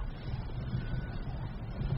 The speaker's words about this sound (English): Can you hear that? Leave it, Marcel. The sea. We're near the sea.